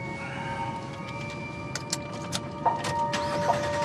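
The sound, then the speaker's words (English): A man starts a car engine, which settles into a steady low rumble, as a woman fastens her seatbelt, with a few sharp clicks and rustles from inside the vehicle. “She sits back and fastens her seatbelt while he shifts awkwardly and starts the engine.”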